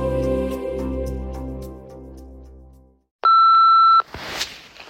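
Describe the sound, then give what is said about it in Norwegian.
Music fades out, then a single steady ringing tone sounds on the phone line for under a second before the call is answered quickly, cutting off with a click and a burst of line noise. “Jeg trodde ikke du ikke skulle ta telefonen så fort.”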